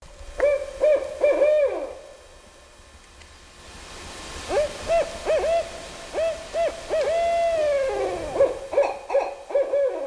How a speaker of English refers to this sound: Well, there it is, the barred owl. It's a common owl. It's a little smaller than a great horned owl.